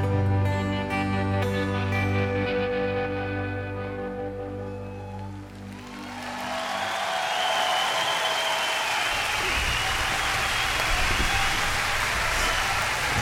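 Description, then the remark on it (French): A piece of music with sustained tones fades out, and a dense burst of audience applause takes over, clapping steadily and loudly for the last several seconds. “Oui, j'aime bien quand ça finit en applaudissement.”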